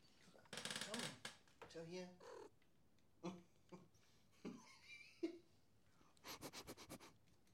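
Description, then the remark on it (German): A cat sniffs right up against the microphone, with quick bursts of breathy snuffling at the start and a rapid run of sniffs near the end, and soft murmured sounds in between. “Jetzt habt ihr die Katzen mal schnüffeln gehört.”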